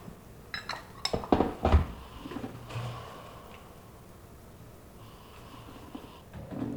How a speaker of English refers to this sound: So this method is using porcelain instead of earthenware to taste a tea. Okay. So you just filled a porcelain teacup with a lid with some hot water. So this is called gai wan or goi wun in Cantonese. Gai means lid, wan means bowl.